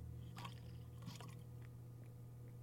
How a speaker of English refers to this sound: I had to take a sip because my throat is hurting so much.